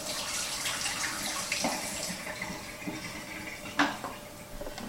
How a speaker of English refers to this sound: I'm just using tap water here, right? Nothing too fancy. I think that's pretty close to 15 seconds. I'm just going to dump that water out.